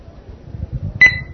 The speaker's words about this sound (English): And we're getting our progress beep.